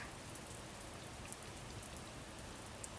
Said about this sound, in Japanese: 私の声なんかよりも、雨音を聞いてくださいよ。